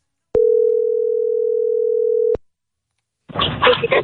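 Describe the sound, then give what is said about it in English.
A steady telephone dial tone hums for about two seconds, loud, then cuts off as radio station 98.1 CHFI places a random outgoing phone call; after a short silence, people begin talking. “Let's make a random phone call.”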